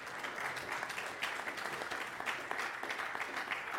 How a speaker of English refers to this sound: It's easy to clap when you've experienced this.